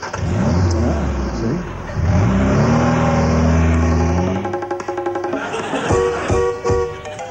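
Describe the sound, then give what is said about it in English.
An Austin Ambassador car engine revs up loudly, rising in pitch twice before dropping back to a rough, throbbing idle with some rattling. No voices are heard. “My Austin ambassador, why wretch? It's the car that I revere.”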